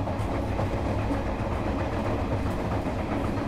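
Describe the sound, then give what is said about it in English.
A train rumbles steadily along the rails, evoking Mother Teresa's 1946 train journey to a retreat in the foothills of the Himalayas: a dense low-pitched roar with a faint clickety-clack rhythm, continuous throughout with no voices. “She's on a train to a retreat in the foothills of the Himalayas”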